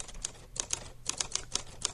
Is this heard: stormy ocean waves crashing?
no